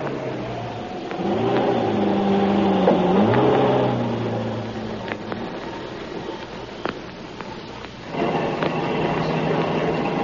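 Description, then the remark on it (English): A taxi's engine revs up and accelerates as it drives off following another car that turned a corner, its pitch rising and falling through gear changes, then settles into a steady driving hum with a brief second surge near the end. “You see that car turning the corner? Follow it and don't let it out of your sight.”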